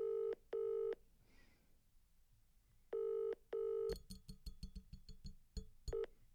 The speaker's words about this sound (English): I'm actually going to phone him on air. Let's put him on speaker and see what he says. He never answers his phone.